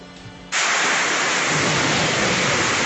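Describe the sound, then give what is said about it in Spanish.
A dense, loud roar of pounding rain and hail whipped by a strong windstorm in Bogotá, Colombia, cuts in abruptly after a brief quieter moment, then holds steady. “la granizada y el fuerte vendaval del día de ayer dejó pérdidas por el orden de los 1.500 millones de pesos.”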